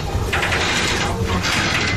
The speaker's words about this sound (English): That's a sound inside the CBS News Bureau in Tokyo, creaking as the building swayed back and forth as a major earthquake was hitting some 230 miles away.